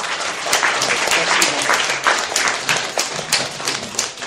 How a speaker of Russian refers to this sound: Я вам могу тоже еще напомнить, спасибо, конечно, за аплодисменты, но я не оперный певец. По уставу Московского университета, и, кстати, Петербургского университета тоже, слушателям запрещалось выражать эмоции по окончании лекции.